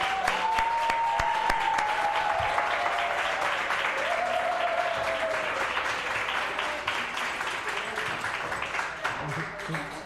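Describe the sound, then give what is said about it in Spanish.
An audience applauds steadily for about ten seconds to welcome a man called an institution in the world of oracles as he is invited up, a dense, even wash of clapping, with a few voices whooping or cheering above it early on. “Es una institución en el mundo de los oráculos, así que un aplauso y que se acerque por aquí, por detrás.”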